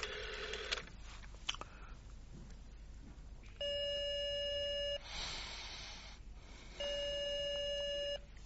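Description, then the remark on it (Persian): A telephone ringback tone sounds twice during a call placed late at night from a borrowed telephone, each a steady, buzzy ring of over a second separated by a pause, after some faint clattering handling noise near the start. “گفتم یه تلفن میخوام، همین. بفرمین، با همین زنگ بزنین.”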